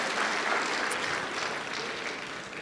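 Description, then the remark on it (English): A small group claps together in a steady, dense burst of applause that holds at an even level for a few seconds, fairly loud, with no voices over it. “Let's give him a clap.”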